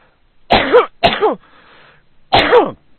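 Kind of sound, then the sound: human body sound, cough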